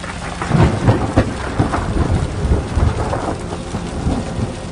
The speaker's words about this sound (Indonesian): Ia terbangun oleh air hujan yang turun. Ditampungnya air hujan untuk minum.